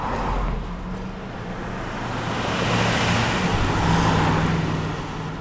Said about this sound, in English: But every morning and afternoon, Upper Noons Creek Drive, which runs in front of the school, gets crowded with another activity. Commuters in their cars, rushing to and from work.